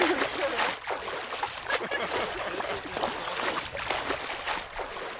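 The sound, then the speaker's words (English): Continuous sloshing and splashing of water as people wade out of Bow Lake, a glacial lake where the Bow River begins in Banff National Park. Uneven surges and small bursts, fairly loud throughout the few seconds. “And I think we've established that this is a glacial lake, so can we maybe continue chatting on shore?”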